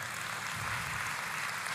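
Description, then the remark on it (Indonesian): An audience claps together in a dense, steady wash of applause that holds at an even level without a break, with no voices standing out above it, applauding their church's distribution of food staples to the local community. “Boleh kita kasih tepuk tangan?”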